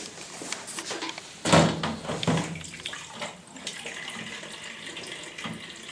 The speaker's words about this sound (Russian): Давайте мы сейчас наберем воду пока в кувшин и посмотрим, как это будет работать.